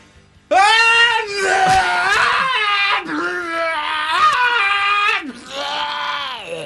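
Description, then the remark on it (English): A person's voice loudly imitates screaming while vomiting: a strained, wailing howl held for several seconds, broken into three retching surges with brief gulping dips between them. “Let's hear your best. Scream, vomit, scrum it.”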